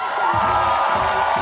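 A large crowd roars and cheers in a dense, steady wash of noise, with scattered whoops rising above it. The sound stays loud and unbroken throughout, and no one speaks.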